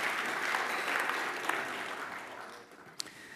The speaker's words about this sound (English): Let's give applause, really.